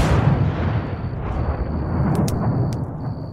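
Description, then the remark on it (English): A deep, booming explosion rumble rolls on continuously and loudly at night, with a few sharp crackles near the end and a faint high whine hanging over the roar. “We managed to drag the guard who had returned to bleary semi-consciousness a safe distance away before the explosion lit up the night.”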